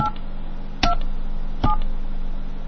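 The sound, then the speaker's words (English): Telephone keypad dialing tones as someone calls Starbucks: a few short dual-pitched beeps spaced apart, each with a sharp click onset, over a steady low electrical hum. “All right, here we go. We're going to call up Starbucks.”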